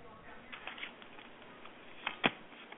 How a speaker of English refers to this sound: All right, I'm going right. to shuffle some cards and see what I see. Hold on.